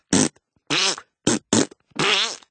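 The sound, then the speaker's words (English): A run of five loud armpit farts, wet, sputtering blasts of uneven length with short pauses between them and no talking. “…'s specialty is he does the best armpit fart in the whole sixth grade.”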